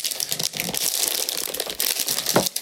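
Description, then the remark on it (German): Crinkling and rustling of the sealed inner plastic aroma packaging of English Breakfast tea in a tin being tugged and worked at, a dense run of crackles and small snaps throughout, with no one speaking. “Ich muss die Aroma-Verschweißung des Tees öffnen.”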